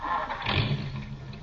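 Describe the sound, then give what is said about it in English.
A car engine cranks and turns over, catching into a low rumbling idle that stays steady for the rest of the moment, with no talking. “Let me hear it. Start her up.”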